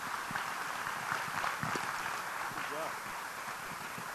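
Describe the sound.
An audience applauds, a steady, dense wash of many hands clapping that holds at an even level for several seconds, with a faint voice briefly audible underneath. The applause thanks a speaker at an Engage series event in East Central Indiana.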